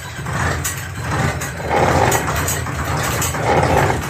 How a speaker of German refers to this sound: Der alte Trecker musste ganz schön ackern, um das Floß hinter sich herziehen zu können, denn auf Räder hatten sie ja verzichtet.